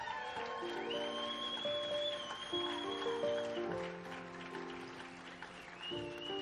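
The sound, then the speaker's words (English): A church audience applauds their pastor as he comes up, with steady, dense clapping that runs for several seconds, mixed with sustained keyboard or organ chords playing over it. “Would you give him a hand tonight as he comes?”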